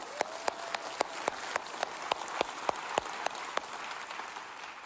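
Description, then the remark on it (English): A crowd applauds steadily, a dense wash of clapping with a few sharper, louder claps standing out at fairly regular intervals, sustained at an even level for the whole stretch. “Let's cheer.”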